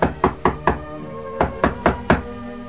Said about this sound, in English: For a few days later, early in the morning, there came a knocking at the door.